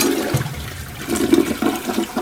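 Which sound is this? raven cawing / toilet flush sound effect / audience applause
toilet flush sound effect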